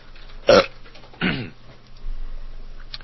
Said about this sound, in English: why does wine suddenly make me belch? Why does belching make me whine?